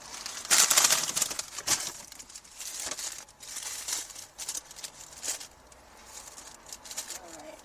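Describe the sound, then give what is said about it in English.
Crinkling and rustling of a paper hamburger wrapper in irregular bursts, louder at the start, followed by quieter handling and soft mouth noises as someone takes a bite of the hamburger. “I'll take a bite of my hamburger before I start.”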